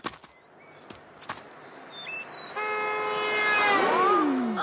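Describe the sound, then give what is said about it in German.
A car roars up fast and speeds past on a road, its engine whine dropping sharply in pitch as it goes by. A few short bird chirps sound faintly before it arrives. “Müssen die so rasen?”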